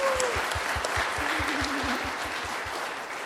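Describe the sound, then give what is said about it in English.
An audience claps steadily and loudly for a choir for several seconds, a dense wash of applause from a crowd, with no talking over it. “They did an awesome job, didn't they? So as you guys, yeah, clap, clap.”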